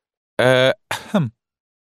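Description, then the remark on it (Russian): A voice imitates a light cough and throat clearing: two short bursts, the first a voiced hum, the second a raspier, breathy clearing sound that trails off, then silence. “Несмотря на свое решение, о котором говорено выше, я уже собрался было обратиться к нему с увещанием, как вдруг услышал подле себя легкое покашливание, звучавшее примерно так.”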